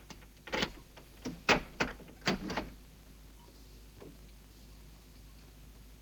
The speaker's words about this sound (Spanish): Luego deja la silla en el suelo y se dirige al dormitorio para abrir el armario.